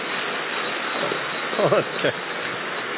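Dense, steady applause from a crowd, a continuous crackling wash of many hands clapping, with a brief voice rising over it near the middle.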